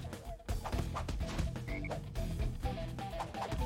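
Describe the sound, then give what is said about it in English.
Repeated low, throaty croaks from toad-like game enemies pulse over a busy, continuous game soundtrack, overlapping in quick irregular bursts at moderate loudness. “What are these toad dudes dropping?”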